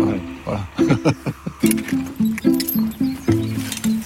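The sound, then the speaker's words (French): Hooves of work horses clop in a steady walking rhythm as the horses are turned back, while a man's voice talks over the repeated hoofbeats. “Allez, retour des chevaux.”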